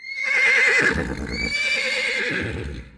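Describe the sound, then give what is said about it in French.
A horse whinnies loudly, its shrill, wavering neigh stretching across the moment, while a steady clip-clop of hooves plods along underneath. “Il s'occupe de l'écurie et des chevaux.”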